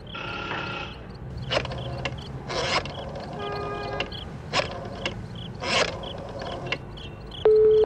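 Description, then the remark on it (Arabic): A phone being dialed in a phone booth to call a colonel: a series of mechanical clicking bursts spaced about a second apart, moderately loud, ending with a steady electronic tone on the line. No one speaks. “علي أن أتصل بالعقيد محصص. هذا هو كشك الهاتف.”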